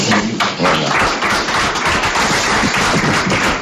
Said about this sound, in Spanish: Con un aplauso histórico en la sala de prensa del Alcoraz, los periodistas despedían así al míster de la Sociedad Deportiva Huesca, ya ex-míster, que se nos hace raro.